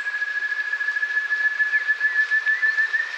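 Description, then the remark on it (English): An ant thrush in Brazil's Mata Atlântica forest, dripping after a few days of heavy rain, gives a piercing, high whistled call, held as one steady unbroken tone for several seconds over a constant background hiss, with a few faint sliding notes. “Eloisa Matur recorded the piercing calls of the ant thrush”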